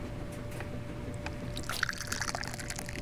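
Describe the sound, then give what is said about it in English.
Tea pours into a cup, a steady liquid trickle with a few brighter splashy glints partway through, over a low background hum. “So I'm just gonna drink more tea. I am drinking pour.”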